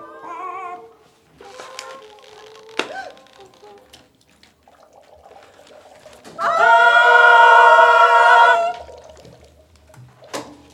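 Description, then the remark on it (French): A few sharp, isolated taps of a hen's beak on window glass, the hen perched at the top of a tree, spread out irregularly, with shorter clucks early on and a loud, sustained hen squawk in the middle. “La poule en haut de l'arbre, bruit de bec sur la vitre.”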